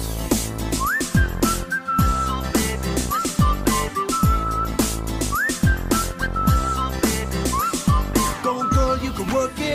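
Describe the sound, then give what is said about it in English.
A catchy whistled melody repeats in short rising and sliding phrases, riding loud over a thumping pop beat with deep bass drops and steady percussion. “Can you blow my whistle, baby, here we go.”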